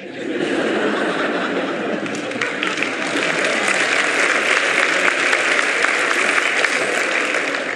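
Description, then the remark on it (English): An audience, many of them women, breaks into sustained applause, a dense steady patter of many hands clapping that holds at an even, fairly loud level throughout, with faint laughter mixed in. “A lot of women were clapping.”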